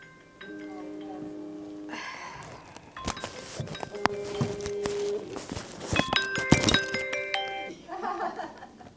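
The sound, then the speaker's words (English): A phone rings with a robocall, a bright electronic tone, its chiming notes repeating in bursts over clattering knocks and a faint murmur of voices in the background. “This is another robocall.”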